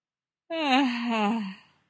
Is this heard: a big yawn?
yes